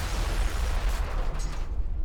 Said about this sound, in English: Sammy heard the explosion from inside the club. When he ran out, he saw what was left of Frankie DeCicco smoldering on the street.